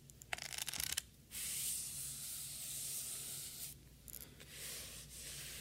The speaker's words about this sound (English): This is just like a little air blower thing.